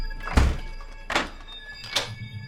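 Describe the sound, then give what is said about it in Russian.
A kitchen door is locked with three sharp clunks spaced about a second apart, the first heavier with a low thump, over a faint steady hum. No one speaks. “Позже она запирает дверь на кухне.”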